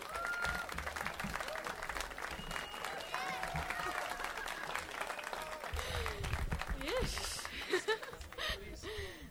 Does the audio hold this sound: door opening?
no